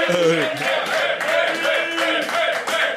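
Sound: applause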